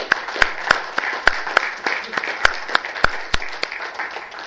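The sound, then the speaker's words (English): People at the Lambs conference applauding warmly to thank an organiser, dense steady clapping with a few sharp louder claps standing out, sustained for several seconds at moderate volume. “This conference is not possible without you, and I think a warm round of applause.”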